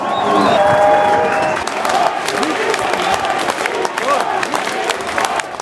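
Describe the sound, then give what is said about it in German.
A crowd of thousands on a town hall square cheers and applauds loudly as the prime minister steps onto a stage decorated in red, white and green, dense clapping mixed with shouts and whistles; voices rise above the din in the first two seconds before settling into steady, sustained applause. “Als unter dem Jubel der Tausenden auf dem Rathausplatz der Ministerpräsident die rot-weiß-grün geschmückte Bühne betritt.”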